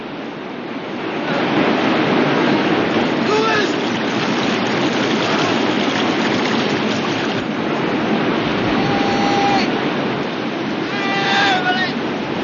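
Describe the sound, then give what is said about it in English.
A loud, steady roar of rushing river white water pouring over a waterfall fills the whole recording, as a man from a broken kayak slides down the waterfall, with a few brief, faint shouts or calls rising above the churning torrent. “Bumped and buffeted, … comes sliding down the waterfall at a frightening pace.”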